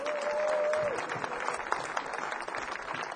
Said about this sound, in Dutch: Even applaus voor de dames, toch?